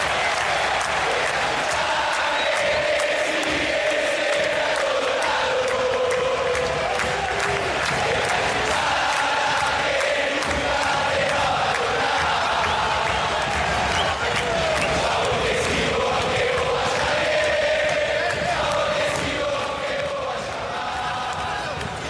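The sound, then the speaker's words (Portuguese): A massive stadium crowd of River Plate football fans sings a chant adapted from a song, a loud, continuous roar of voices with a rising and falling melody and sharp claps or drum hits throughout. “Mas essa é uma daquelas músicas que a gente já comentou aqui, que primeiro eu conheci pelo canto da torcida, depois eu fui conhecer a música original, né?”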